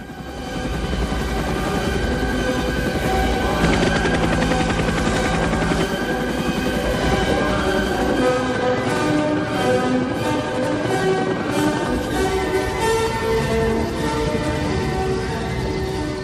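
A loud, dense battle scene from the Vietnam War film Apocalypse Now: Air Cav attack helicopters roar over rapid bursts of machine-gun fire. Sustained musical tones run underneath for the whole stretch, with no talking.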